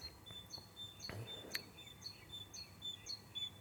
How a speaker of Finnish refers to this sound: hui vitsi, kun toi joku lintu tuolla. Olisi toi talitintti. Nehän ei enää vedä titityytä, vaan tityytä.